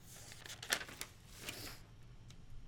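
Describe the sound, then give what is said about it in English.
Soft rustling and crinkling of paper note pages being flipped through, with a few quick papery swishes spread over a couple of seconds, fairly quiet, with no talking. “Well, let's go back to the other notes because whatever you're talking about, I don't remember.”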